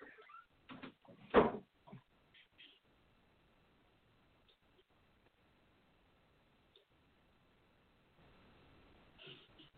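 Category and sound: household object, door being shut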